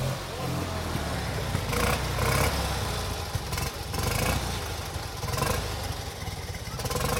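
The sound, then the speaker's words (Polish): An old car engine runs steadily after starting without the choke in warm weather, its low rumble loud and continuous, with slight surges and uneven puffs as the slightly overheated engine coughs while idling. “A wiesz co, teraz jest ciepło, to chyba bez sania powinien odpalić.”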